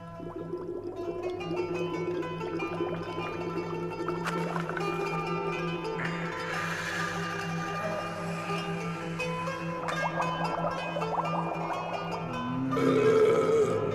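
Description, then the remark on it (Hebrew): Water bubbling as players blow into hookahs and pipes, played like instruments on a recorded track: a steady, low, gurgling burble over a sustained droning tone, with no talking, swelling a little louder near the end. “כל מיני חבר'ה שמנגנים במקטרות ובנרגילות, עושים קולות של בועות בתוך מים.”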